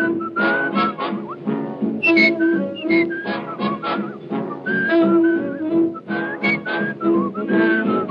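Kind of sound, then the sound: human body sound, person whistling a tune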